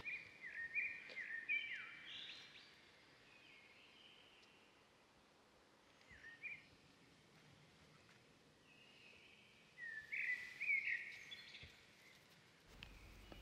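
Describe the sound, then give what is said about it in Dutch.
Bright, high bird chirps come in short bursts, near the start, around six seconds and again near ten seconds, against a quiet outdoor background with faint rustling. “De vogel vindt zijn huisje weer terug.”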